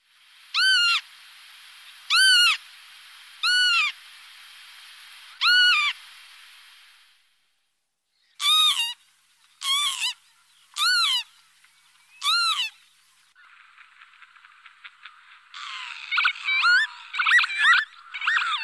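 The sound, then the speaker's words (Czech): Lapwings call during their acrobatic display flight: two sets of four shrill, slurred wheezy cries with a short pause between, then a buzzy rattling trill and a burst of overlapping squealing calls. “Čejky náhle mění směr, rychle stoupají a pak zase klesají, obracejí se na záda a přitom jim křídla doslova sviští a oni sami volají to čísi nebo kníha.”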